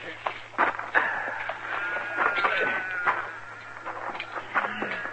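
Several sheep bleat in overlapping, wavering cries, one after another, as a small flock is herded into a pen, with a low steady hum underneath.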